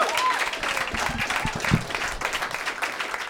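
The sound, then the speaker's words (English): An audience at a comedy show applauds steadily as the next comedian comes to the stage, a dense wash of many hands clapping at an even, loud level with faint crowd murmur underneath, sustained throughout the whole stretch. “Yes, keep clapping for your next comic.”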